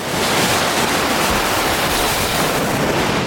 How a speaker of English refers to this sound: At 2 a.m., the lake is louder and more deserted. The city lights are dimmer in the distance and the water looks darker and deeper.